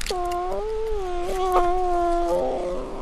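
An orphaned brown bear cub of about 5 pounds, barely the size of a cat, nursing goat's milk from a baby bottle while sitting on a man's chest in a tank in Sitka, Alaska, lets out a long, steady, nasal whine that wavers slightly in pitch, with no talking, ending in a brief rougher squeal.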